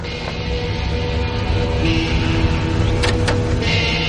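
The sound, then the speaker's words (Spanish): A silver Cadillac's engine rumbles steadily as the car pulls into a driveway and comes to a stop, with a couple of brief mechanical clicks near the end. “Unos minutos después, aparcó en la entrada un Cadillac plateado brillante.”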